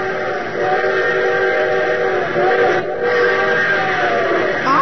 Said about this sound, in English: Sir, your train whistle sounds closer. Well, of course it sounds closer. It's going to pass within a mile and a half of it.